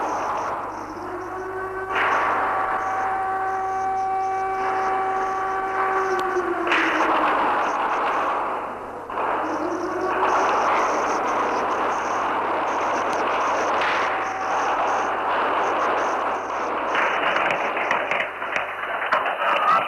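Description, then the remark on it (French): Constant roar of gunfire and heavy weapon blasts in the deserted streets of wartime Jerusalem around 3 p.m., loud and dense, with a steady droning tone sounding under the din for a few seconds early on; no voices. “En début d'après-midi, Jérusalem avait son visage de guerre, rue déserte et fracas des armes.”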